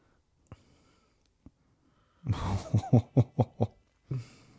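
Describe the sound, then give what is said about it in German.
After a couple of faint clicks, a creature lets out a loud, rhythmic run of snorting, grunting huffs, about six quick puffs in a row like a chugging steam locomotive, then one more. “Und das auch dieses Geräusch, was wieder jetzt grunzt die ganze Zeit, ne? Wie so eine Dampflok.”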